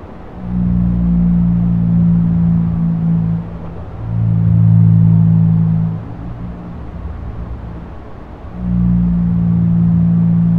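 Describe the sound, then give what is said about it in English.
Low, droning blue whale calls pitched up five times so humans can hear them: three long moaning tones around a steady pitch, each lasting a few seconds with brief gaps, over a hissy background. “that's the sound of a blue whale pitched up 5 times so it could be heard by human”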